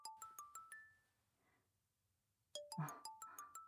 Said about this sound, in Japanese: 彼氏からの電話ですか。